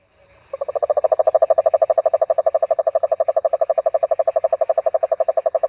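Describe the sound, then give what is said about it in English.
A large toad, a species growing up to about 9 inches long, gives a low, clattering trill: a steady, rapid train of rough pulses that starts abruptly and carries on evenly for several seconds, loud, with no one talking; recorded in the lower Rio Grande Valley after a hurricane. “And they also have a trill, but it's a low sort of clattering trill.”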